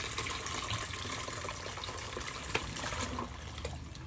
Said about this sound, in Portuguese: Então eu já esquentei a água e vou colocar.